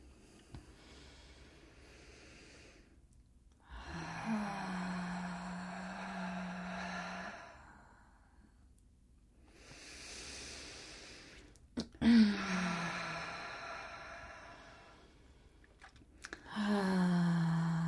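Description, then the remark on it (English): Slow, deep breaths drawn in through the nose and released out through the mouth during breathwork, fairly loud, repeating in long unhurried cycles with quiet pauses between them and no talking. “Working with the breath work, and we're just drawing in through the nose and releasing out through the mouth and through the heart.”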